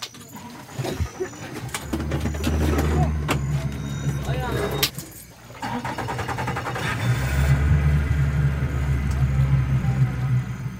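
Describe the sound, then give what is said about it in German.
A motorboat engine drones steadily and loud as the village chief starts it and heads upstream on a river, its low hum dipping briefly before rising again, with scattered knocks and splashy noises over the running motor. “Der Cacique, also der Häuptling des Dorfs, startet das Motorboot und fährt flussaufwärts.”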